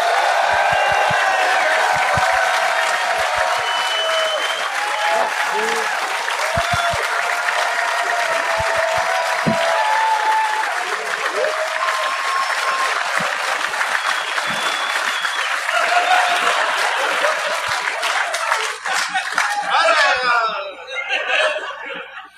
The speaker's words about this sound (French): J'aimerais ça, s'il vous plaît, donner de l'amour, donner une grosse, grosse, grosse bonne main d'applaudissement à Kathleen Rouleau, Michel Courtemanche.